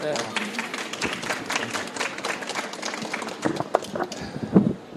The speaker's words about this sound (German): Ja, klatschen Sie ruhig.